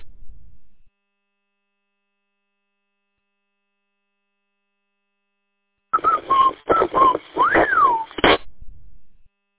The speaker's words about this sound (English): There's the other one. Recognize the whistle? There's the East Point jammer.